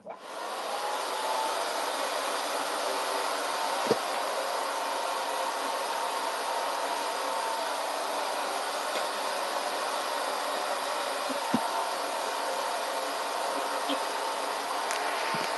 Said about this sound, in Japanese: この白のヘアオイルを髪の毛につけまして、ちょっとドライヤーをしていきますんで、しばらく黙りますが、ちょっと斬新な ASMR だと思って聞いててください。